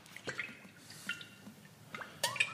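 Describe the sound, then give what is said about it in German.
Olive oil poured over quark: a few soft, wet drips and splats spaced irregularly over a couple of seconds, quiet, with no talking. “Ich gieße jetzt ein bisschen Olivenöl über den Quark, knall Zitrone drauf und ein bisschen Schnittlauch rein.”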